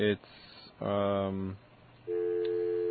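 A buzzy, harmonic-rich pulsing dial tone on a campus telephone sounds in short bursts, then, after the phone's own abbreviated campus number is dialled, gives way to a steadier, higher-pitched busy signal that continues to the end.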